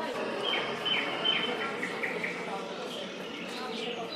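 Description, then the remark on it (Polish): Birds chirp in short, bright calls over a dense, steady wash of background noise, with cars and children's shouting mixed in, sounds from various sources layered together. “I ptaki, i samochody, i krzyk dzieci.”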